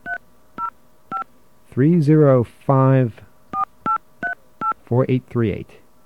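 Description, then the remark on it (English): A series of short, clipped touch-tone beeps as an 800 number is dialed on a phone line, about eight in an irregular rhythm, interrupted by a few brief voiced sounds. “But if we call this number, and we're going to get a dial tone on the line here, all right?”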